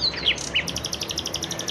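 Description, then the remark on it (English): A bird calls outdoors in Jerusalem on a quiet early morning, opening with a few sharp downward whistles, then a rapid, even series of high chirps repeating steadily, with faint low background hum. “It was still quiet outside, and save for a honk here or there, it was just me and the birds. Oh, listen to that one.”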